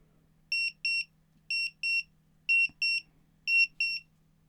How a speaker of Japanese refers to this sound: こんな感じで時間になったら音が鳴るタイマーです。これを今日は20分に設定して、その中でいっぱい行きたいなって思ってます。